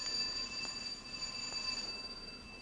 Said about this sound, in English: Then, one morning, my doorbell rang at an early hour.